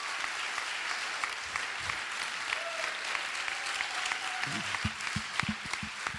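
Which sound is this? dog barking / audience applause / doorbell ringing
audience applause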